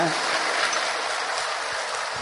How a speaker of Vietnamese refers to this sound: Cho nên chúc mừng các vị Phật tương lai, một tràng pháo tay thật to, thật giòn giã cho tỉnh ngủ nữa.